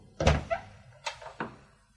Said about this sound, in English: I opened Charlotte's door.